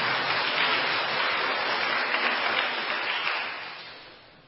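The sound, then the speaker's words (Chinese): A crowd applauds to thank the people who gave testimonies, with steady, dense clapping that holds for several seconds, then tapers off toward the end. No one speaks over it. “我们再一次鼓掌，谢谢今天所有见证人的见证。”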